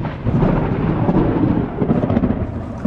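A deep, rolling rumble of thunder fills the whole moment, loud and sustained with a low, grumbling texture and a faint hiss of rain behind it. No one speaks.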